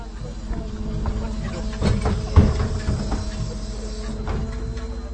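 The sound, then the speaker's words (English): A steady low mechanical drone with a tonal hum and rattling, clanking hits from a garbage truck's compacting mechanism being operated at a festival, with a few louder bangs midway. “If you're thinking that may be the sound of a garbage truck but aren't entirely sure, then rest assured.”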